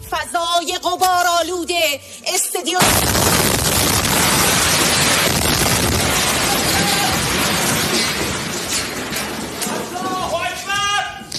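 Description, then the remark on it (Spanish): A female Iranian TV presenter is talking during a live broadcast when a sudden, loud explosion cuts in, followed by several seconds of roaring, crackling noise and rumble before voices return near the end. “Durante una emisión en directo, una fuerte explosión ha interrumpido su transmisión.”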